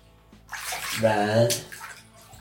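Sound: water splashing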